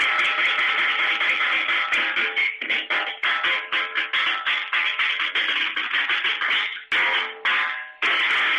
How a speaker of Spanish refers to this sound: ¿Puede hacer usted una especie de redoble de batería con la sopera para ver cómo quedaría? Allí va.